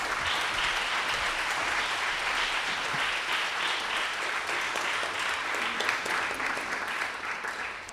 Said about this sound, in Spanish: Vamos a escuchar, si les parece, a nuestros artistas aplaudiendo